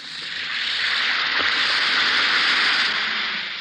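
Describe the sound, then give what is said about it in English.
An Alka-Seltzer effervescent antacid tablet fizzing in a glass of water: a steady, bright hiss of tiny popping bubbles that swells in quickly and holds evenly, with no voices. “Listen to it fizz.”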